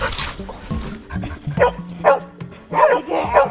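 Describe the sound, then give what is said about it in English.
A detection dog trained to find sloth poop barks repeatedly to signal where the poop is, a series of sharp, loud barks in an uneven rhythm with brief pauses between them, with some low background noise underneath. “I'll put this here in this block and she will tell me by barking where the poop is.”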